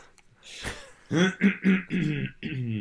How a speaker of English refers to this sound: I got a frog in my throat. Do you want to take a minute there and cough it up? Cough up a lung.